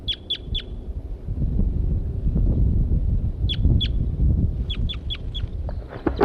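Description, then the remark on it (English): Birds sing and call in short bursts of sharp, high-pitched chirps, two at the start, then clusters of two and four notes, over a steady low rumble with some clucking-like sounds; a female bird is interacting with a singing male, M4. “The female is interacting with M4 here, who was in song.”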